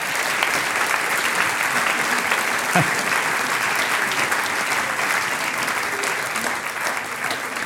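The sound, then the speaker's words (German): A crowd applauds steadily for the whole stretch, a dense, even wash of many hands clapping at a constant loud level with no voices standing out. “Christian Hartl, großer Applaus.”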